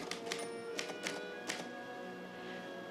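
A handful of sharp, irregular keystroke clacks from someone typing a letter, over a steady tonal hum in the background, with the typing thinning out toward the end.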